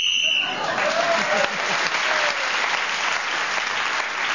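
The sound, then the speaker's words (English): A short, shrill whistle blast, blown to end the round of a panel game as Clement Freud was speaking, rings out for about half a second, then breaks into loud, steady applause that carries on to the end. “Clement Freud was then speaking as the whistle went, gained that extra point.”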